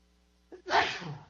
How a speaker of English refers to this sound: Now, real important here, and I'm going to sneeze.